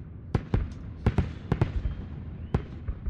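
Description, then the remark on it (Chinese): Fireworks, including a purple one, bursting in cold weather in an irregular volley of about seven sharp cracks and pops over a steady low rumble, some bangs arriving in quick pairs, with no one speaking. “好了，看烟花吧。”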